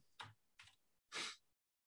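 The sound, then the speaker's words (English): Three short bursts of computer keyboard typing, quick clattering keystrokes grouped together with brief pauses between, fairly quiet, with no one talking. “How do you hear his keyboard, too?”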